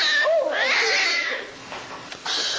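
Becky, a TV kitten, meows in a couple of high, wavering, drawn-out cries, followed by a short, fainter squeak near the end. No one speaks.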